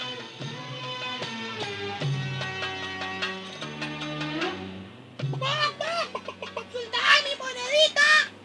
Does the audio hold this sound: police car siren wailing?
no